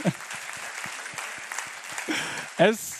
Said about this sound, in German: Ja, ihr könnt gerne klatschen, ja. Es ist begeisternd.